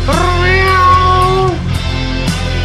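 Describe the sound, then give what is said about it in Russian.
A mermaid's loud, angry wailing howl that swells and holds for about a second and a half, then breaks into a rougher, noisier cry. It is intense, with no talking. “И русалка сильно рассердилась, так завыла, что аж уши у кота и заложила.”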